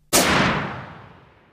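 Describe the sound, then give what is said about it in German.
A single loud gunshot, fired by a scientist at the heart of a man strapped to a cot, cracks sharply, then its booming reverberation slowly fades away over more than a second. No voices are present. “Bis er auf das Herz des an die Liege gefesselten Mannes zielte und einen Schuss abfeuerte.”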